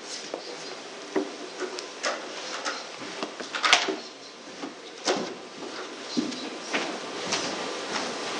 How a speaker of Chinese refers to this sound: 好，没有，我们弟兄姊妹就把这个前面椅子摆一摆，可以以此来讨论分享。